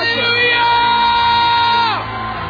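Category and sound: crowd, audience shouting loudly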